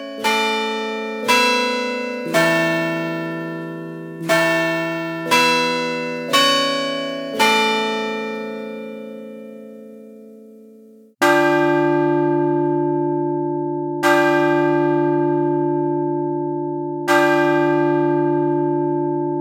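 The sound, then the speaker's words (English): A Chime Master electronic carillon system rings a short melodic chime of about eight notes, then a deeper bell strikes the hour in slow, evenly spaced tolls that ring out and linger. No voices. “If you wish to strike the clock, a variety of styles are programmable for any time periods you desire.”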